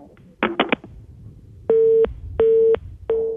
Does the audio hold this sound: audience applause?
no